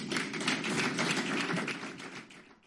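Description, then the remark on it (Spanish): Steady farewell applause from a crowd after Salvador Illa's parting speech: a dense patter of many hands clapping that holds evenly for a couple of seconds before tapering off at the end. No one speaks. “Aplauso de despedida justo antes de desear a Darias suerte en un ministerio que vas a disfrutar”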